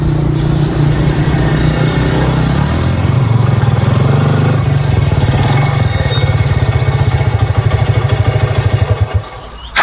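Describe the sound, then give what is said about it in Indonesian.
A motorcycle engine runs steadily as it rides home, its low rumble shifting pitch as it rides and revs, then a rapid putting idle before it cuts off as it is parked near the end. “Bergegas memarkirkan motor, menuju kamar, ganti baju bersih-bersih.”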